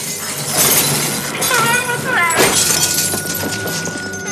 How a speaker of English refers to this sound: Larry's parents and sister watch TV in the empty restaurant. Larry's father smashes the screen with a bat.